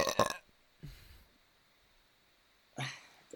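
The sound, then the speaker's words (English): A deep, low burp rumbles, framed by a sharp noisy burst at the start and another rough, throaty gulp near the end, with quiet gaps between. “That one had the bass, but it started, duration.”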